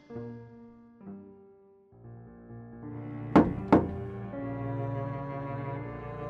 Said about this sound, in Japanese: 男は、ドアのノックの音だけで、これから行われる出来事を予感した。